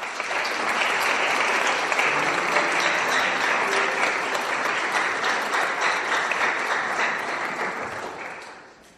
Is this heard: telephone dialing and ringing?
no